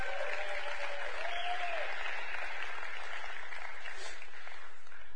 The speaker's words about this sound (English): All right. Y'all clap your hands for tithes and offerings today.